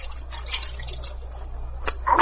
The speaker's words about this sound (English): Oh, here's that stream I told you about. Pretty, ain't it? Good water, too.